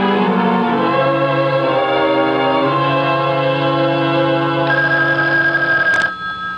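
A loud electronic phone ringtone plays continuously for several seconds, holding steady tones that shift pitch a few times, with no one speaking and a brief click near the end.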